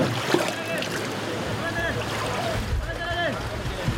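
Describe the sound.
Water is scooped and tipped out of a boat with a container, giving occasional splashes over steady outdoor shoreline noise, while distant voices murmur in the background.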